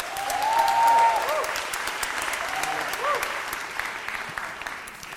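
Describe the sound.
A crowd applauds steadily for several seconds, dense overlapping claps filling the room at even loudness, with a brief whistle near the start and faint voices mixed into the clapping.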